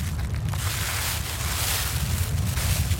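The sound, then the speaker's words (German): Strong, gusty wind roars steadily on a stormy day on the island of Lampedusa, pressing gold and silver foil scraps against a 2-meter steel fence, buffeting the microphone with heavy low rumbling and a broad hiss that swells and eases throughout, with no voices present. “Es ist ein stürmischer Tag auf Lampedusa. Der Wind drückt mitten auf der Insel gold- und silberfarbene Fetzen gegen einen 2 Meter hohen Stahlzaun.”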